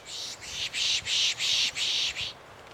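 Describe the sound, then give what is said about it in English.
A person makes a quick run of about six breathy, hissing "pish" sounds, a rhythmic shushing call known as pishing, used to draw birds in, on a trail in a wooded area of a park in New England, with no talking. “That's a noise that sometimes birds find curious, so they will come in and respond to it.”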